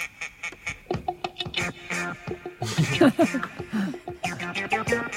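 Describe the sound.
A voice sings unaccompanied, imitating duck quacks in quick, rhythmic nasal bursts, fairly loud, with a brief pause midway before the quacking melody resumes.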